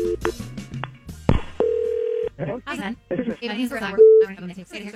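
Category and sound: signal or alarm, outgoing telephone call ringing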